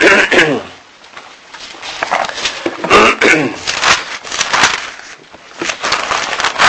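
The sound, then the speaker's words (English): Several sharp, noisy bursts break out one after another, sounding like sneezes, with brief voiced sounds mixed between them and short pauses in the middle. “And I'm going to sneeze. Excuse me.”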